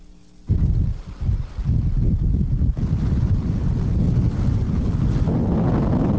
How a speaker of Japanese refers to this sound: 大型で強い台風18号で強風が吹き荒れた県内。富山市では昭和61年からの観測史上最も強い最大瞬間風速 42.7 メートルを記録しました。